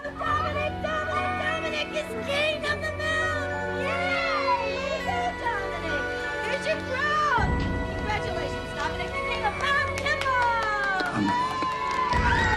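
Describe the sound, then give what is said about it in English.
A loud, continuous din of a crowd of children at a kindergarten shouting and squealing at once, with high voices rising and falling over a steady, busy background. “Kimball suddenly emerges from among the crowd of kids.”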